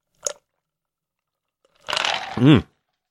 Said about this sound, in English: but hang on, I'm taking a sip of this cream soda. I am parched.